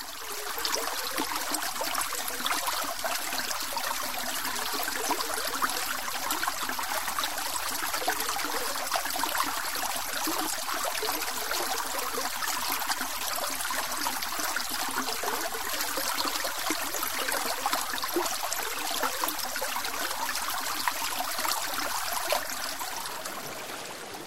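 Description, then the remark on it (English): A steady trickling stream of water flows continuously and evenly throughout, a bright babbling rush with no voices and no pauses. “Droplets gather, forming a stream.”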